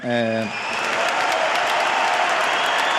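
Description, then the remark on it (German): A huge tennis crowd erupts into loud, sustained applause and cheering that fills the space steadily, right after a brief sung or shouted voice at the very start, cheering a player after his final match of his career. “Und dann gab es noch ja mega großen Applaus und Jubel und es klang dann so.”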